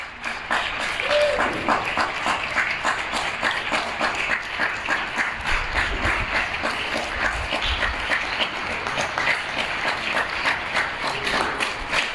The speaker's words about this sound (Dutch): Dat is een lang applaus, hè? Nou, het hele fragment duurt 4 minuten 20. Hier klapt Nederland voor de zorg. Dat was op 17 maart.